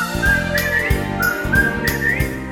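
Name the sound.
whistling a tune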